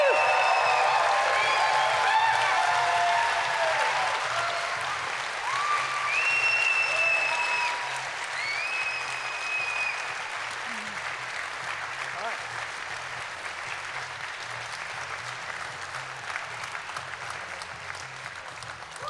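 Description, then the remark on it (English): A large audience applauds all of the evening's speakers at the end of a show, continuously for about twenty seconds: a dense crackle of many hands that starts strong and slowly eases off, with a few high whistles and cheers in the first half. “Can we just give one massive last round of applause for all of our speakers that you've seen this evening?”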